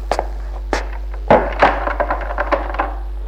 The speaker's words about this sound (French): Il ferme la porte.